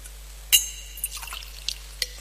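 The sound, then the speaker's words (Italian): A small amount of water is poured into a metal wine chalice: a bright clink at the rim, then a few soft drips and trickles over a faint low hum, with no talking. “L'acqua unita al vino sia il segno dell'unione con la vita divina.”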